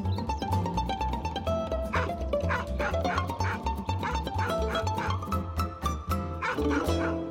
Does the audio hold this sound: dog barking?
yes